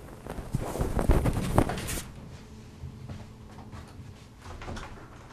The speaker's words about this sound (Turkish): Şu kapıyı kapat.